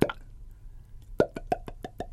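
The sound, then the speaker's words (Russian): A voice imitates, as a sound trick, a bottle being opened with a corkscrew: one loud pop, a pause, then a quick run of about seven smaller popping clicks in steady rhythm, with no talking. “Я сказал, знаете, еще можно сделать, вот бутылку вы открываете, вот так вот штопор вставляете.”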